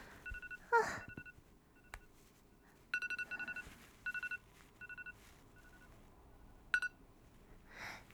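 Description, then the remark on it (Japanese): A smartphone rings with short bursts of rapid electronic beeps, repeating in clusters at close range, mixed with brief rustling and handling noises and no talking. “ごめん。スマホが鳴った。”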